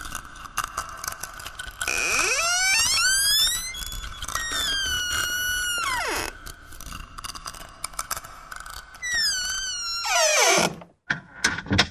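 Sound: door opening sound effect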